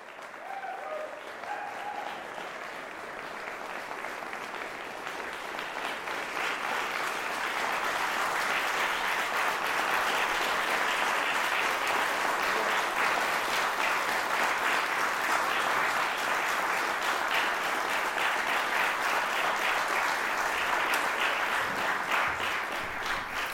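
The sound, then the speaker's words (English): Sustained audience applause after a performance by Michael Arnowitt, a dense crackle of many hands clapping that swells within the first few seconds and holds steady and loud for the rest, with no one speaking. “So we'll just go back to, I don't know, where we left off with the applause and stuff.”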